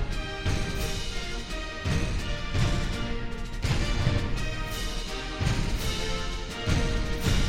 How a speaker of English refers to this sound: So you could say that that's an unusual percussion instrument, but the sound of these howitzers, which were recorded by Keith Johnson and then overdubbed into the recording, I think makes a great effect.